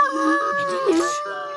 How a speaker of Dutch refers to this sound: Was dat een wolf?